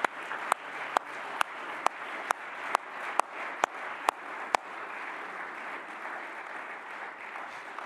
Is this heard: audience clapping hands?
yes